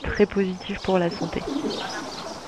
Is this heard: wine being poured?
no